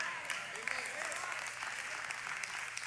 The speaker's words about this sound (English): Amen. I heard about 10 of y'all clap. I hope the rest of y'all, I don't need to clap. I need you to get it. If you clap, that's great.